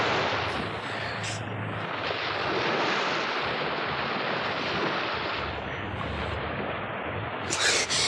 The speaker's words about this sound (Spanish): La población se llamaba Bonchurch y en una de sus calles había un modesto taller de sastrería, hasta donde no alcanzaba a llegar el golpe rítmico de las olas, porque la sastrería estaba a unas 3 o 4 cuadras de la costa.